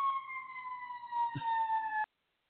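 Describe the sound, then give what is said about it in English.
A police car siren from a cop car driving somewhere not too far away wails in one long, steady tone that slowly drops in pitch, fairly loud, then cuts off abruptly after about two seconds. No one speaks. “I'm hitting mute because there was a cop car riding somewhere not too far away from here, and I'm sure everybody could hear it.”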